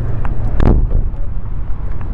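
Outdoor parking lot ambience with wind buffeting the microphone and a steady low rumble of traffic, broken by one sharp thud early on; no one speaks.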